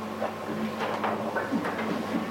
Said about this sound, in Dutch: Fijn om te zien, dus ik zo de bladzijde hoor gaan.